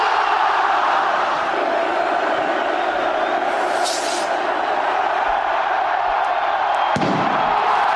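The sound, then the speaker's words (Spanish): A huge festival crowd in Pamplona roars and cheers continuously at the San Fermín festival, held after two years without it, a dense, loud wall of voices with a few sharp bangs and a brief thud near the end. “Y ahí la locura absoluta desatada en la gente de Pamplona.”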